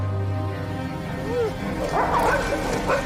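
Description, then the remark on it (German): Several dogs whine and yip in short, high-pitched bursts, growing busier toward the end, over a steady low rumble and a murmur of voices. “Sie reden von Ihren Hunden.”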